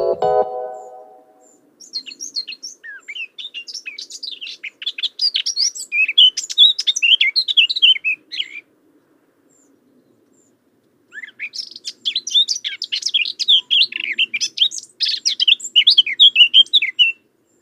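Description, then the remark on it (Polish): A songbird sings in two long, rapid bursts of high, clear twittering and trilling notes, separated by a few seconds of quiet, with a brief low tone at the very start. “Ptasiego na polski tłumaczy ornitolog Paweł Pstrokoński.”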